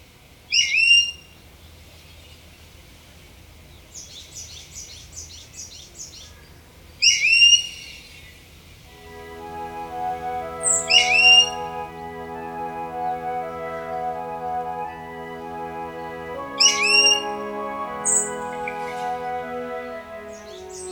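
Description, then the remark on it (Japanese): Brown-eared bulbuls in the subtropical forest of Ishigaki Island, Japan, trade loud, squeaky calls back and forth in several bursts, while soft, sustained music fades in underneath for the second half. “石垣島の豊かな森に育まれた石垣ヒヨドリ、鳴き合う声は亜熱帯の森によく似合います。”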